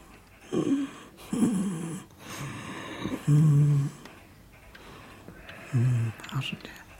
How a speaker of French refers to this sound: Papy, quand il ronfle doucement comme ça, quand il dort, sa respiration, quand il dort, là, j'entends régulièrement comme ça.